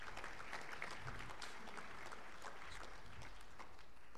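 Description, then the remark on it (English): An audience at an awards presentation claps steadily throughout for the authors of a published paper, a dense patter of many hands blending into sustained applause at moderate volume, with no voices standing out. “But they still earn a round of applause.”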